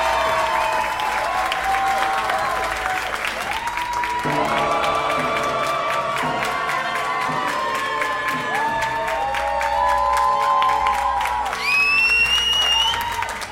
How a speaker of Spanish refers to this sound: Y el ganador a mejor croma es el hospital. ¡Un aplauso!